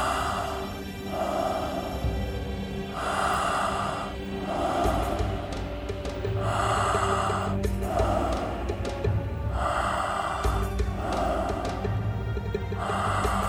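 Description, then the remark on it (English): Slow, deep breaths drawn in and let out in a steady, repeating rhythm, clearly audible, with a low continuous drone underneath and no talking. “Stay with that breath and raise your determination and your will with each inhale, making it complete.”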